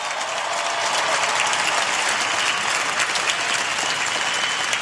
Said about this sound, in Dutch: En dat doen we met een luid applaus. Maar het is vooral Jezus die jullie geroepen heeft. En laten we Jezus danken met nog een luid applaus.